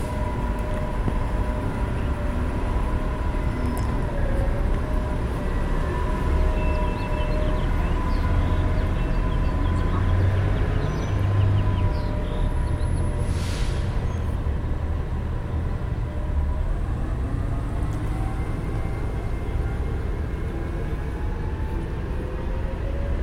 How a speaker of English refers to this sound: The bus that just left was the one eastbound to UCR. I'm waiting for the one westbound to Corona.